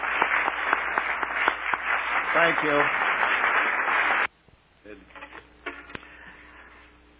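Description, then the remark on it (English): A crowd bursts into loud, dense applause for about four seconds, then it cuts off abruptly and a man speaks briefly over quiet. “I know you want to clap.”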